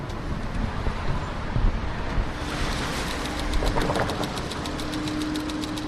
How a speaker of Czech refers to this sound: Stačí opravdu jenom vystoupit na tramvajové zastávce Klamovka z tramvaje a po pár krocích už jsme v parku.